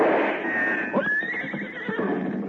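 A horse neighs loudly, a single long whinny that rises into a high, shaky trill and then warbles downward over a couple of seconds.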